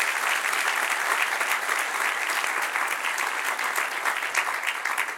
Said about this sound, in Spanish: A darle un aplauso al Señor. Amén.